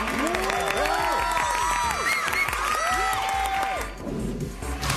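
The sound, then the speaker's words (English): A big stadium crowd cheers loudly, many voices rising and overlapping in a dense, continuous roar that thins out and quiets a little toward the end. “Cheers can also be customized based on the competition or event.”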